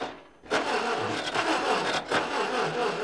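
A tractor engine cranks and sputters without catching, from the film Brothers Keeper, a loud, rough grinding noise that surges and dips unevenly for about three seconds. No one speaks.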